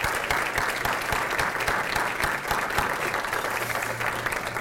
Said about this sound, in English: Please, let's express our gratitude with applause. And for really making this event so special and memorable, one more round of applause for our 9 speakers today.